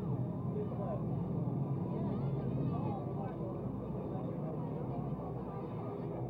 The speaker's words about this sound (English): Sounds of the motorcycles in the background as they flank the papal car that lead it out of the World's Fair ground next to the Belgian Pavilion, which is sort of that rustic setting on the left.